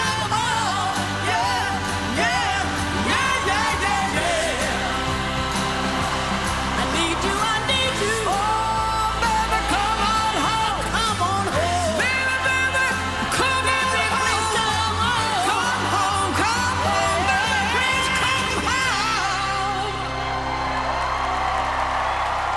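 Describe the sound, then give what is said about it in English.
A crowd jumping up and down cheers in a loud, continuous roar with rising and falling whoops and shouts scattered throughout, steady for about twenty seconds before easing slightly at the end. “The crowd jumps up and down.”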